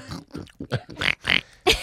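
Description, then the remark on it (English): A person imitates a pig, letting out a rapid series of about seven snorting grunts, fairly loud, with short breathy bursts between them and no other talk. “I'm getting a pig theme. I really am. Yeah. I don't know if it's typecasting, but... I feel like we need a snort.”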